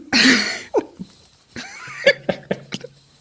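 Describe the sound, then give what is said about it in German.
A loud cough bursts out at the start, followed by several shorter, softer coughs and throat noises spread over the next few seconds, with no talking. “Führ das mal aus, weil ich muss gerade mal husten.”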